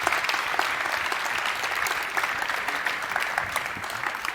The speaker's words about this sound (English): I'm very happy to announce them and that they're here. Give a big applause to Chloe and Thomas Lohninger.